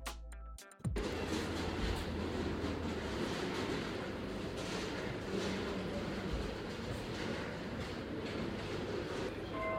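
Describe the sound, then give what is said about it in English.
Busy train station ambience at Victoria Station: after a brief opening click, a steady, full rumble of trains and railway noise fills the space continuously, fairly loud, with no clear voices. “finally arrives at Victoria Station. She heads to the ticket office.”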